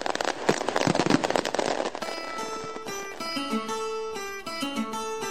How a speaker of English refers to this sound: Today's GeoQuiz gets underway with a barrage of firecrackers.